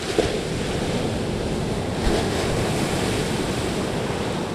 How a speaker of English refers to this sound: Westerly is Rhode Island's southernmost town. And one thing you notice when you get here is there's a lot of water. Yeah, there's the Pawcatuck River that separates Rhode Island from Connecticut. And then there's this, the big old Atlantic Ocean.